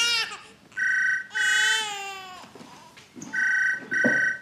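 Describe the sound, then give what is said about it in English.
A teething baby, held by a man at a manor, wails in several loud, strained bursts with brief catches of breath between them, the cries high and harmonic-rich, with no talking. “Michael holds …. I think he's teething.”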